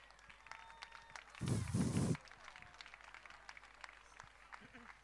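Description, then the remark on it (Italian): A short, loud burst of audience clapping and cheering as a warm welcome applause for a committee of mothers rises for under a second, then drops back to a low murmur of a crowd with scattered clicks and shuffles. “vi chiediamo un caloroso applauso, abbraccio di benvenuto al Comitato di Madri per Roma Città Aperta.”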